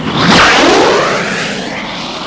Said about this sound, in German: 1947. Der Amerikaner Jäger durchbricht zum ersten Mal die Schallgrenze.